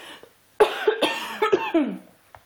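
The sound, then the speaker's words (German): A loud coughing fit: about five harsh, rattling coughs in quick succession, with no talking, fading into quiet afterward. “Falls Ärzte unter euch sind, könnt ihr am Sound meines Hustens erkennen, was das ist?”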